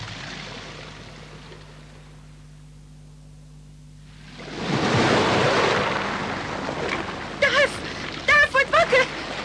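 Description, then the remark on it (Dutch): Ocean surf rolls in on a sandy beach under a warm sun after a few seconds of near-quiet, a broad hissing wash that swells and lingers, with a few short voiced sounds breaking in near the end. “Het water komt dichterbij. Wat? Het komt naar ons toe.”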